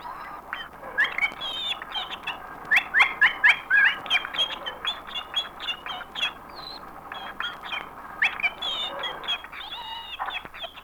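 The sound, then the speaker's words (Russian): A canary named Pincha, the only canary in the country that learned to imitate the human voice, sings on and on with rapid chirps, warbles and trilled bursts, lively, the song rising and falling in intensity with no voices present. “Должен сказать, что Пинча единственная в нашей стране канарейка, которая научилась подражать человеческому голосу.”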